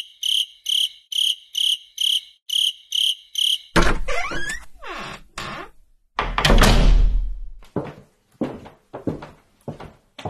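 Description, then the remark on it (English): A cricket chirps in a fast, even pulsing rhythm for a few seconds, then gives way to loud clattering thumps and knocks. “Not that cricket.”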